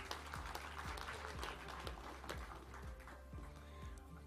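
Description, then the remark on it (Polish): Steady applause from an audience for the team from Zespół Szkół nr 1 in Garwolin, a dense wash of many hands clapping at an even, fairly loud level throughout, with no one speaking over it. “I wielkie brawa.”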